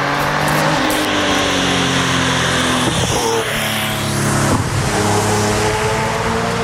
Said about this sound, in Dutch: Maar hoe klinkt dat nou, zo'n ronkende Porsche motor? Nou zo dus.